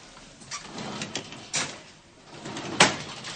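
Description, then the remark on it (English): A refrigerator door is opened and shut as roses are put inside, with a few soft clunks and rattles followed by a sharper closing thud near the end. No one speaks. “I put them in the refrigerator right next to your heart.”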